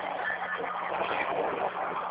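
truck passing by

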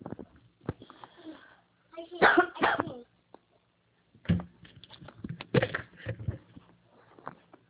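coughing fit

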